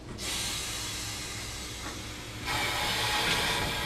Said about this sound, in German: Wir machen jetzt eine sogenannte Bremsprobe, damit der Zug überhaupt auf die Strecke fahren darf, damit wir wissen, dass alle Fahrzeuge vernünftig bremsen. Wir fahren heute mit einer streckentypischen Dampflok. Das ist die Baureihe 64